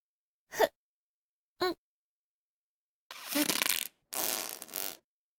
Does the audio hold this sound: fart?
yes